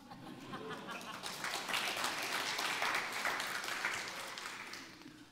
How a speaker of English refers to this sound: For those of you that don't know, this is his first time playing in a praise band. And I think that's excellent, right? Almost heard you applaud.